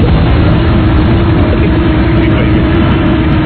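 A helicopter engine drones loudly and steadily, a dense low rumble with a rough, churning texture that never lets up, with no voices over it.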